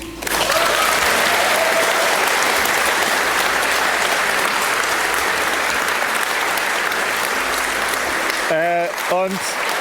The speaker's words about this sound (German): Ich würde sagen mal so, die Person ist im Raum. Also bitte nochmal einen Applaus.